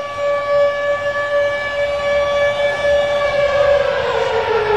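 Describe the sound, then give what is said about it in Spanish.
A large siren wails continuously over a whole stadium as the lights go out, its steady tone holding loud and then sliding slightly downward near the end, with no voices over it. “Crucen los dedos, se apagan las luces, una gran sirena comienza a sonar sobre todo el estadio.”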